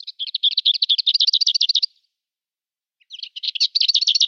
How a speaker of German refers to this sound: Also zwei ähnliche Arten, aber die Klappergrasmücke hat diesen typischen Gesang, der sie sehr gut unterscheidet von der Dorngrasmücke. So, und den hören wir jetzt nochmal, damit sich das in eure Hirne brennt.